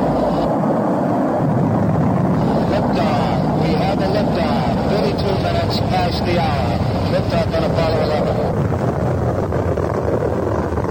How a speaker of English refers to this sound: Lift off on Apollo 11. Oh, boy. Oh, boy, it looks good, won't it? Somebody must be leaving town. Building's shaking. We're getting that buffeting we've become used to.